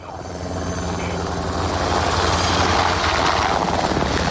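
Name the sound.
helicopter flying overhead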